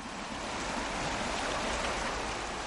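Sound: river water flowing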